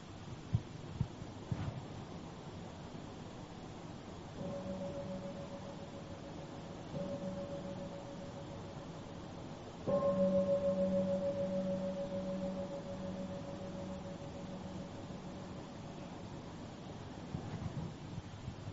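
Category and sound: signal or alarm, meditation bell ringing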